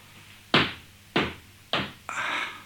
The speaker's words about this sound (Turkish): Kapı çalınıyor hatun. Bir bakayım. Kimmiş gelen?